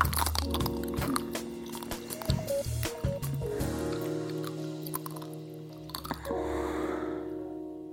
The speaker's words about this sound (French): Et si vous cherchez d'autres spots sur YouTube, par exemple, vous trouverez des femmes, beaucoup de femmes croquant goulûment dans leur esquimau, les yeux fermés.